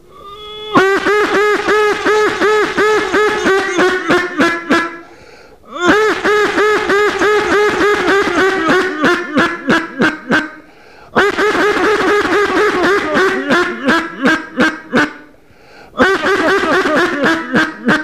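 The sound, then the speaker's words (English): A duck call blown loud and nasal, in long runs of rapid quacks that trail off, repeated four times with short breaths between, to lure back a duck that has passed over the decoys. No one speaks. “So I'm going to try and bring him back.”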